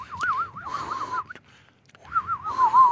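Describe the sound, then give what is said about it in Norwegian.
A breathy, warbling whistle made with the mouth, imitating a panpipe and wavering up and down in pitch, in two bursts separated by a short pause, fairly loud. “Høres ut som han har reprodusert instrument i munnen din”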